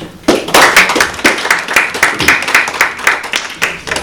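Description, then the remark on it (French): A small group of first-grade (CP) pupils from école Paul Langevin, guests on the Bubble Game radio show, claps enthusiastically: a dense patter of quick, uneven hand claps sustained throughout, fairly loud, with no one speaking. “On peut les applaudir.”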